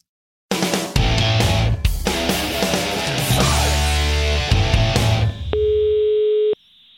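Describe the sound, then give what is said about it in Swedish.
A loud burst of dense, busy electronic sound gives way to a steady, unbroken ringing tone of an outgoing phone call lasting about a second before cutting off. No one speaks. “Jag vill ringa.”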